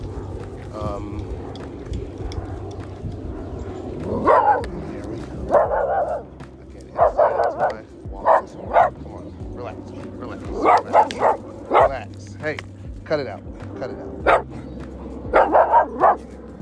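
A dog being walked barks again and again in short, sharp bursts, sometimes in quick doubles or triples, with brief pauses between volleys, over a steady low background hum.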